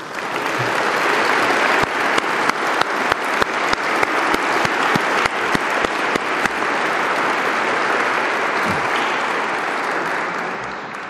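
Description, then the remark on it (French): An audience at a prize ceremony applauds the prize laureates as they stand, steadily, a dense wash of many hands clapping, with a few sharper individual claps standing out in the middle before the applause begins to taper slightly toward the end. “Je demande à ces lauréats de bien vouloir se lever afin que nous puissions les applaudir.”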